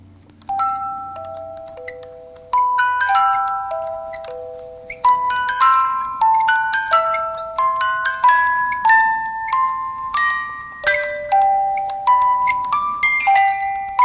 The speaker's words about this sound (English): And it starts with that music box. And I was like, I don't know what it is about music boxes, but they do sound like weird and fucked up, don't they? Don't they just sound a little fucked up to you? I mean, all right, here's one.